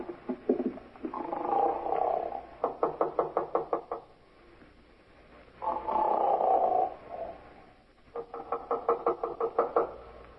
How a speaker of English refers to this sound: Guy's snoring up a storm at 9.